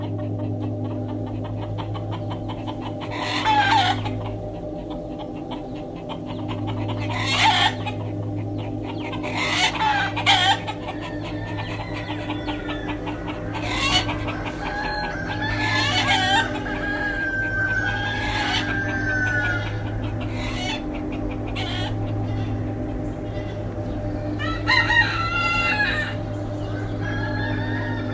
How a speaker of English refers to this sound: I want to start with a bird whose agitated squawk fills the interior of the Ibizan countryside from the early hours of dawn into the evening. It's the cockerel, or gallo in Spanish and gall in Catalan.